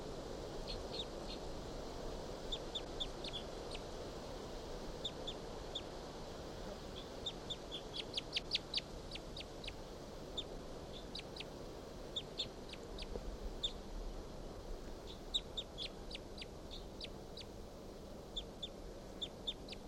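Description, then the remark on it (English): Soft, high call notes from a wild bird, short chips repeated irregularly throughout, sometimes in quick bursts, over a low steady background hiss. No one speaks. “Song now about the wild bird. And their call notes, their soft calls.”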